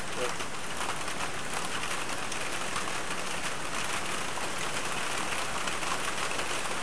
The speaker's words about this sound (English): Boy, it sounds like it's raining big time now. It is, but it's not big time. Very loud on the phone here.